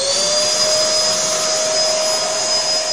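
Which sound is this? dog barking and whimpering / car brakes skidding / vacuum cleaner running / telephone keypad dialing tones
vacuum cleaner running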